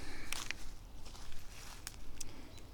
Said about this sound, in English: Oh, stomping through here. I'm on the bark float.